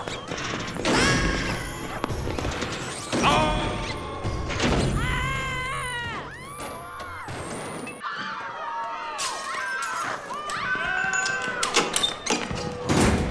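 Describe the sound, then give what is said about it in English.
A secret trapdoor on a stage bangs open and something drops with a heavy thud, set amid a loud, busy jumble of crashes, squeals and excited shouting voices. “Into the trap door!”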